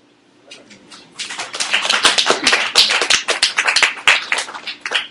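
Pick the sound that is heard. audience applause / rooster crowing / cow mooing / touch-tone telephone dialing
audience applause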